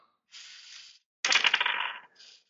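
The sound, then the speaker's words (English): Dice rattle briefly, then clatter loudly across a hard surface in a quick burst of sharp clicks, followed by a faint final tick as they settle. The dice are rolled for a luck roll. No voices. “And you may make a luck roll.”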